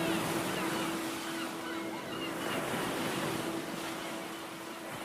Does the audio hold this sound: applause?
no